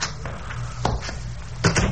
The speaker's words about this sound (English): I was examining these, especially those involving a bit of cheesecake, when I heard a key in the door of the private entrance.